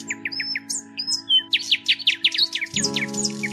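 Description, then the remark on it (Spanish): Birds sing in a lively stream of short, repeated chirps and whistled notes, clear, over a steady low hum, with no voices. “Él aborrecía el silencio, por eso buscaba el rumor del arroyo o se entretenía escuchando el canto de los pájaros.”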